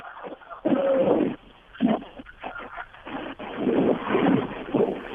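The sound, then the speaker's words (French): Strong 30-knot wind buffets and roars across a muffled, narrow-band line in loud, surging bursts, with churning noise underneath from a boat pounding through a very rough sea in the English Channel. “Oui, les conditions de vent et de mer, ben là, on a 30 nœuds de vent et une mer vraiment très formée.”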